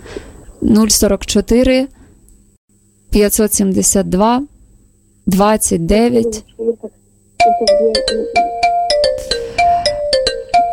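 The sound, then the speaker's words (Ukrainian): A voice talks for several seconds, then a Viber incoming-call ringtone starts during a radio broadcast: a bright, repeating electronic melody of short tonal notes, loud, playing steadily to the end. “Дорогі радіослухачі, на жаль, на Viber ми не можемо зараз приймати дзвінки.”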